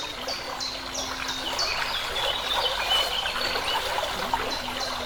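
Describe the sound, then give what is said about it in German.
A spring at a desert oasis splashes and trickles steadily throughout, while short high bird chirps repeat over the water and a soft, low sustained tone hums underneath. “Und du hörst die ganze Zeit dieses Plätschern der Quelle.”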